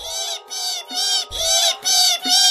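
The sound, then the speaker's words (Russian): Goshawk chicks in the nest screech loudly and insistently, five harsh, piercing calls in quick succession separated by brief pauses, as they reach for meat brought by their father, with no talking. “Ястребята заверещали, потянулись за лакомством, но мать строго их остановила.”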